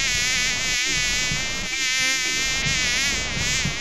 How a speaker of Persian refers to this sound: مگس جان، زیادتر در کجا خود راحت احساس می کنی؟